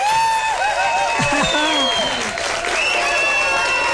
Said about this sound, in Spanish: lo recibimos con un fuerte aplauso. ¡Ahí está la respuesta del público!